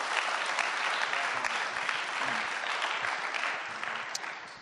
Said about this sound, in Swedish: Det är bra, det är värt en applåd.